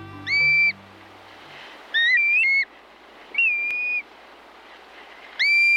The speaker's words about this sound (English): In the northern reaches of Canada and Alaska, June days offer breeding birds almost continuous daylight. Here's one shorebird that breeds in the Arctic, the black-bellied plover.